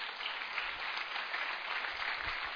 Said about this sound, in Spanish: 319 personas. ¿Podemos darle un aplauso a nuestro Dios?